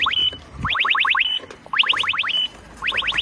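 An e-scooter alarm sounds as a parked scooter is lifted: quick bursts of five rising electronic chirps ending in a brief steady beep tone, repeated three times in a regular pattern, clear and fairly loud with no talking.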